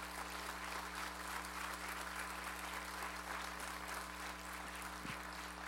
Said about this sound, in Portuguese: Pode aplaudir Jesus.